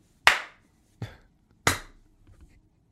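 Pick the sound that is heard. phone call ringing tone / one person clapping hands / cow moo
one person clapping hands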